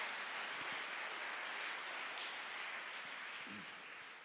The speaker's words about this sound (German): Lass uns mal dem Herrn einen Applaus dafür geben.